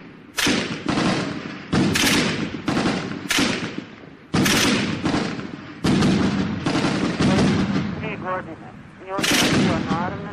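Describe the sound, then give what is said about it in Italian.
Loud, echoing bursts of gunfire and heavy explosive thuds from shelling and falling grenades in the upper part of Sarajevo, about a dozen in ten seconds, coming irregularly, each blast ringing out and decaying across an urban space. “Nella parte superiore della città ci sono degli spari.”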